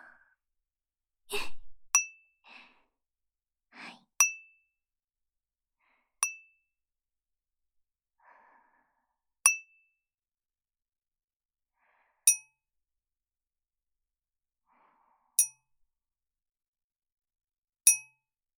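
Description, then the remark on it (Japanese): Clear, ringing taps on a ceramic sake bottle, about seven bright pings spaced a few seconds apart, each with a short sustained tone, alongside a few soft breathy sighs early on. “今度はこっちのとっくりを。”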